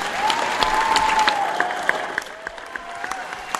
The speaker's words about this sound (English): I want to first of all ask everyone to give a big round of applause for Mark, our moderator.